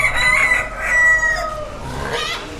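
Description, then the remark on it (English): A rooster at the Colorado State Fair in Pueblo crows loudly, a long strained call that rises and falls, followed by a shorter second cry over faint barnyard background noise. “But 4-H isn't just about chickens, pigs, horses, and cattle, and it's not just for farm kids anymore.”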